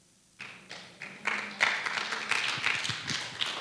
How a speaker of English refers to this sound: I hope you're clapping for God.